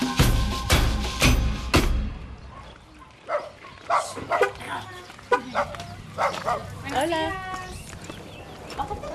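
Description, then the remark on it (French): An old, mangy dog on the steps of a house in Indiana East West gives a quick run of loud, sharp barks, then quieter scattered sounds and murmuring voices follow in the background. “Il y a un vieux chien tout pelé qui se gratte sur les marches de la maison.”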